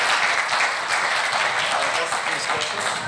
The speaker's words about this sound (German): Okay, dann Applaus an euch und ihr dürft euch nochmal hinsetzen.